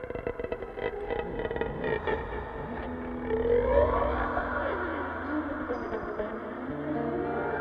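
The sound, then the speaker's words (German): A massive, solid iron door screeches on its hinges as it turns, a drawn-out grinding squeal whose pitch wavers up and down over a low rumbling scrape, with no voices present. “Ihr ungeheures Gewicht erzeugte einen ungewöhnlich scharfen, kreischenden Laut, als sie sich in den Angeln drehte.”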